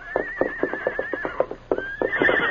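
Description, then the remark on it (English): The horse Victor, offspring of the horse Silver, whinnies from a grove in a long, quavering, high cry that breaks off and then rises again, with steady rhythmic thumping beats underneath, clear. “The great horse Silver immediately recognized the whinny of his offspring, Victor.”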